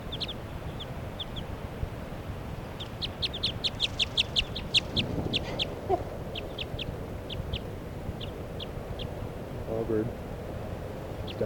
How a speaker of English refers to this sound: Wild bird perched right next to 40's cage. It's a very light-colored bird, female, I think. And that's her. She's calling in response to bird 3 at 7.